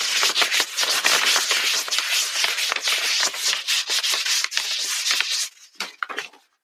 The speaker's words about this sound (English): So let's see what it does. Hitting the button. Oh, it's printing. Okay. Quietly, though.